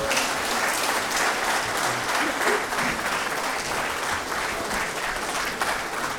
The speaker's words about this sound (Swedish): Jag tycker vi ger dem en liten applåd till.